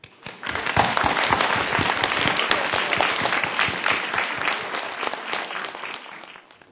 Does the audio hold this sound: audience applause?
yes